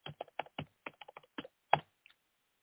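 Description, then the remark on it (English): Rapid, loud keystrokes on a computer keyboard, a burst of about a dozen clacky taps in uneven rhythm ending with a heavier strike, with no voices. “Man, you're a loud typer, dude.”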